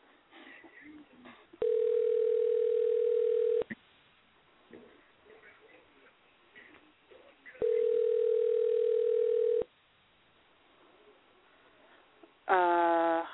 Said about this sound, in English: Note, let's see if we can find her. It's ringing.